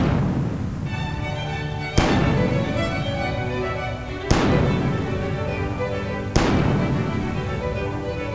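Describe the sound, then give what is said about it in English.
Three heavy cannon blasts at the end of a theme song go off about two seconds apart, each a sharp, loud boom that rolls into a long, ringing decay over a steady, humming background. “I'm not sure what it would be, but it should end with the sound of a cannon. Yep. And insert it here.”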